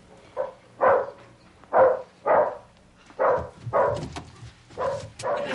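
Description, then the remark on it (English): A dog barks repeatedly, about nine loud barks coming in quick pairs with short pauses between, with no one talking. “Borrow a cup of kibble. We ran out. The dog's still hungry.”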